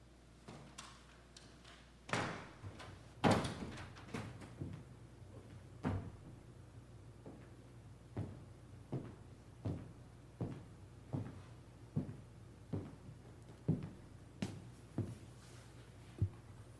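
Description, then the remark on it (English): Heavy locked church doors are tried and rattled against their locks: a few loud clunks early on, then a steady run of regular thuds and knocks, with no voices. “The doors are locked.”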